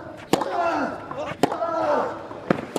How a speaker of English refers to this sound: Those are tennis noises, right?